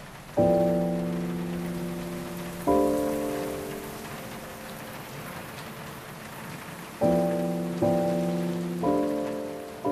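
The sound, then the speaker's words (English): Heavy rain patters steadily on a surface, a dense continuous hiss, while sustained musical chords ring out now and then, struck about five times over the rain with no talking. “Heavens, that rain's so realistic, I find myself looking up and wondering if there's a hole in the roof.”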